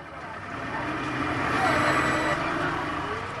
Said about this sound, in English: starts the engines for a return journey back up to Europa Bar.